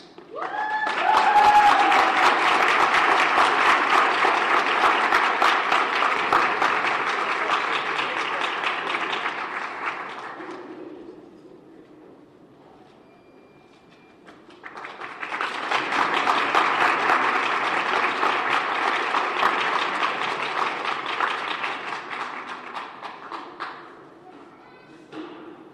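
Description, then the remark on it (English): Two long bursts of audience applause for the honorees at a Women's History Month program, each about ten seconds of dense, steady clapping, separated by a brief lull with faint murmuring before the second round swells up. “Let's have one more round of applause for all of the honorees today.”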